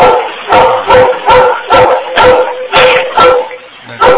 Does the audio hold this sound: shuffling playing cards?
no